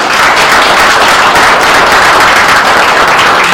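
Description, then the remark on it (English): A crowd applauds steadily for an employee being recognized for years of service, a dense, even patter of many hands clapping at once, loud and sustained from start to finish with no voices over it. “Okay, just applaud, please.”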